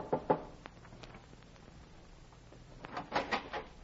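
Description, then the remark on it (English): Knocking on a ship's cabin door at night, aboard a ship docked in a harbor: two sharp raps, a lull with a few faint taps, then a louder cluster of three or four knocks, with no voices. “I went aboard one and knocked on the cabin door.”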